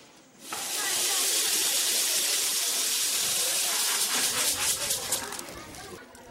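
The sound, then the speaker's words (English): Water pours steadily in a broad, hissing stream in a kitchen, starting abruptly and holding strong, with faint splashing and clatter as a food item is washed under it. “Note how much water is needed for this one item alone, even before it reaches the cooking stage.”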